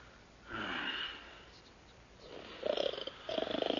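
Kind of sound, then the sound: human body sound, man snoring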